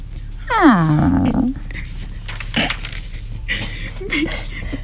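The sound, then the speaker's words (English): A dog lets out a loud, falling yelp that drops into a short low growl, followed by a few fainter scuffles and softer noises. “Wouldn't want Buddy putting a damper on your next trip to the local river. Roof, roof.”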